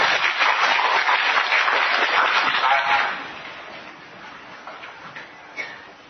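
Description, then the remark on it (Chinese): A burst of applause from an audience of teachers at a lecture, dense crackling clapping that holds steady for about three seconds, then fades quickly into quiet with a few faint scattered claps. “哎，则你本来掌声鼓励啊！”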